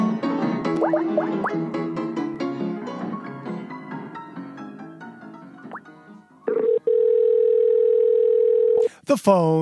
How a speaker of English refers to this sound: The phone is ringing.